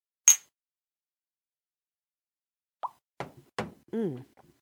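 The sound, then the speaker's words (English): A single bright clink with a little pop rings out as cups are clinked in a toast, followed by a pause, then a few more sharp taps of cups knocking together and a brief voiced sound near the end. “You even had a little pop there. You're getting fancy on the clanks.”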